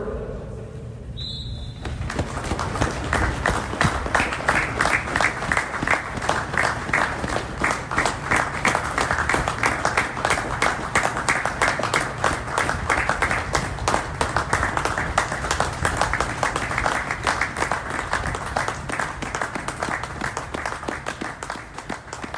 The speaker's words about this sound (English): So now, please join us for a minute's applause from the members of Tony's service to both of today's clubs and football as a whole, starting on the whistle of the referee.